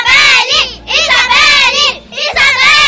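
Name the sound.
children cheering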